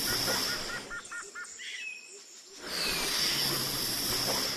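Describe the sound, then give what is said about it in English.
Someone blows hard by mouth to inflate a boat, two long breathy rushes of air with a short pause between them, while birds chirp faintly in the background. “That was a lot of blowing. I am all out of breath.”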